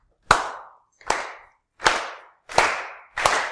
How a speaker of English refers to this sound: And so there's a chant which I'm going to sing, and you're going to clap along with. So I need you to give me the beat. It goes like this.